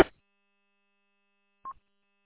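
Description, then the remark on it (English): A single short, mid-pitched electronic Morse code beep from a radio repeater that is back on the air, sounding after a brief burst of static, with a faint, steady high whine underneath. “Eric was telling me that it was down, and then I was answering him because I heard the Morse code beep.”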